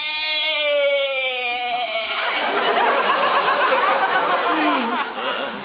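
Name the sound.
goat bleating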